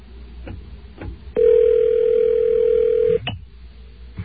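A single steady ringback tone of about two seconds from an outgoing phone call placed after bypassing an automated AI phone system. Loud and even, with faint clicks and line noise before and after it and no talking.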